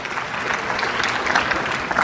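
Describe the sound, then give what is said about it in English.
An audience applauds itself steadily first thing in the morning on a gray day. Dense overlapping claps form a continuous, fairly loud wash of sound with no speech over it. “Give yourselves a big round of applause for being here first thing in the morning on a gray day.”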